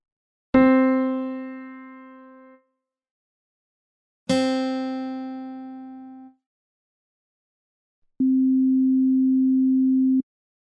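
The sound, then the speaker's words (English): Two plucked, harmonically rich notes ring out and fade, followed by a steady pure sine-wave tone at middle C that holds evenly for about two seconds, then cuts off cleanly. “Here is the same middle C note, but this time it is simply a sine wave.”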